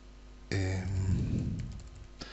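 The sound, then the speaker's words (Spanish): A few scattered keystrokes on a computer keyboard as login credentials are typed to sign back in to Active Directory, soft, with irregular pauses between taps over a low steady hum. “Por esa razón me voy a conectar de nuevo con mis credenciales.”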